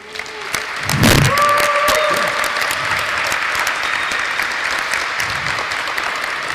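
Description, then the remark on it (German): Sustained audience applause welcoming two speakers at the start of a talk, a dense wash of many hands clapping at steady volume, with a brief tonal whistle or feedback line near the start and no talking. “begrüßt Sie mit einem herzlichen Applaus.”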